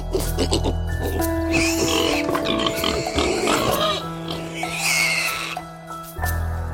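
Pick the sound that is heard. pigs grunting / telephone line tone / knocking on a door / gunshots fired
pigs grunting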